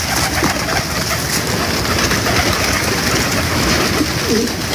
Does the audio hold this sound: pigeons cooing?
yes